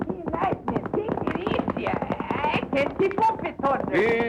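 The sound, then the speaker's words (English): Rapid hoofbeats of Lightning Jim's big black horse, Thunder, at full gallop about 5 miles from the border town of Correo, a steady drumming rhythm that stays loud throughout, mixed with tonal, voice-like sounds. “In fact, as they're about 5 miles from their destination, the border town of Correo, the worst town in the United States, Whitey's only complaint is the rapid pace set by Lightning Jim and his big black horse, Thunder.”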